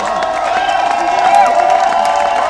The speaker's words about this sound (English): Don't know yet. There's a cheer, but why? What is happening? Somebody tell me. What's happening?